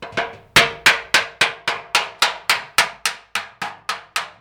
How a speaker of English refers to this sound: it pounds the lower half of the kettle from a misshapen bowl into a smooth, round sphere. The rest, Patrick will hammer by hand